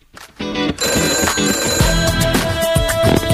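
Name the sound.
telephone ringing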